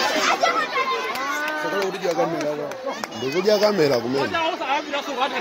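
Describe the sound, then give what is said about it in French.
A noisy crowd during violent altercations near a school in Mangochi district, Malawi, filmed on a mobile phone: many overlapping voices shouting and chattering at once, some high-pitched and agitated, some people applauding, forming a dense, loud, continuous din. “Alors c'est tourné au portable dans le district de Mangochi, des altercations près d'une école, certains applaudissent, affrontements violents hein”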